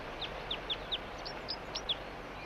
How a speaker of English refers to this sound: Meanwhile, the only decoy responding is bird 4-3. Stop. It's recording the same bird. It's not a red male.